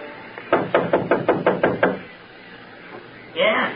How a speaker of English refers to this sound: Go on, knock.